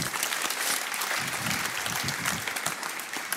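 An audience claps steadily for a few seconds, a dense wash of many hands at a fairly even level, with faint murmuring voices beneath the applause.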